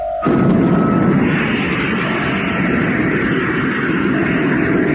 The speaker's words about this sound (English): Okay, Jet. Atomic motor, fire.